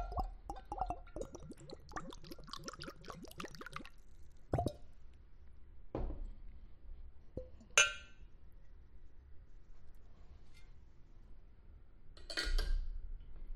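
Tesla tequila glugs and splashes as a shot is poured, then glass clinks and taps ring out a few times, sharp, with quiet pauses in between and no talking.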